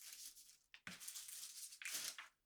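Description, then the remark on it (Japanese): Soft rustling and crinkling of paper being handled and crumpled, in a few uneven bursts with brief pauses between them, quiet and with no voices. “この紙ってゴミでいい？”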